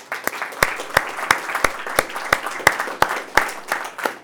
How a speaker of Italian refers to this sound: Salutiamo tutti gli intervenuti di questa sera e soprattutto saluterei e farei un grandissimo applauso alla nostra